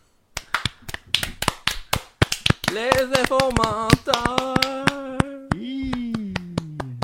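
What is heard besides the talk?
hand clapping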